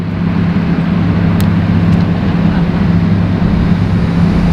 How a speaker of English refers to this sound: trucks here, noise.